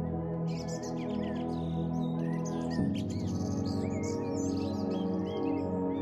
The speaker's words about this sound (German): Die Vögel singen.